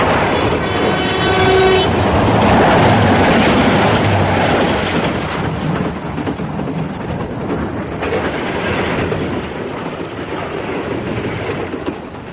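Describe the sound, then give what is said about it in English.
A train thunders past at speed, a brief horn-like tone sounding at the start before a dense, sustained roar of wheels and rushing air that eases only slightly. “She's still going pretty damn fast. They haven't seen me yet.”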